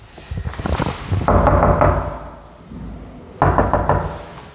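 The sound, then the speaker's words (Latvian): Several firm knocks on the door of a third-floor apartment, owned by the Russian embassy, in a nine-storey residential building on Slokas Street in Imanta, in quick bursts, fairly loud, with short pauses between groups and a hollow, resonant thud to each rap; nobody opens. “Arī durvis neviens neatver, tāpēc jautāju kaimiņiem, vai te kāds dzīvo.”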